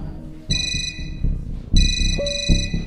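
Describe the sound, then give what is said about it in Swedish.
An alarm phone rings suddenly with a shrill electronic tone in two long bursts separated by a short pause, loud, over low background noise with no one speaking; the call is from an assistant nurse. “Din larmtelefon ringer plötsligt.”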